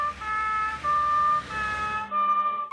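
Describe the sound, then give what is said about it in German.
A red fire engine's siren passes by, its two-tone wail alternating steadily between a higher and lower pitch, loud and clear with road rumble underneath and no voices. “Es ist bestimmt toll, eine Feuerwehr zu sein.”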